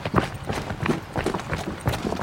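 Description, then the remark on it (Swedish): Steady, rhythmic footfalls of people jogging, a quick even cadence of crunching steps, with no talking. “Men vi joggar lite då.”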